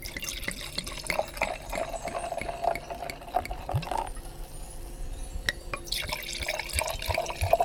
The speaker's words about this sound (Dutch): Ik ben eventjes bezig om iets te drinken voor ons in te schenken. Je haalt hier een fles Prosecco.